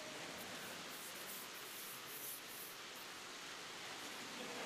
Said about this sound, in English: Thank you, God, for the rain.